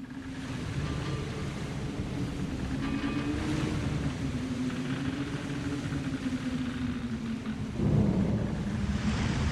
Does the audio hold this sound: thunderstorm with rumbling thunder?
yes